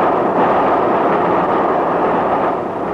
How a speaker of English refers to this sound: That was Balcombe we just passed through. 20 minutes from Brighton. Say, this is a good train, isn't it? Running right on the nose. Another 40 minutes to Victoria.